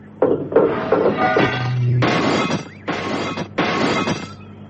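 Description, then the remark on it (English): Several loud bursts of crunching, breaking glass with knocks and scraping as the rest of the glass is cleared from a wrecked car's windscreen, followed by heavier clattering crashes as a steel ladder is thrown into a ditch; no one speaks. “cleared the windscreen of the rest of the glass and threw the steel ladder into the nearest ditch.”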